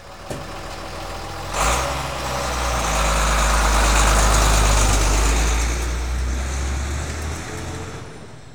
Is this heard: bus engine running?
yes